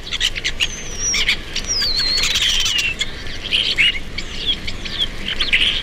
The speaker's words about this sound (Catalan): Estornell comú. Esturnus vulgaris. Au temuda pels pagesos, que trobem tot l'any als camps de conreu.